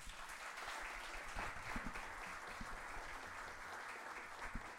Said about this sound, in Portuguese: Eu queria começar por vocês aplaudissem aqui na guitarra portuguesa, Filipe Núncio.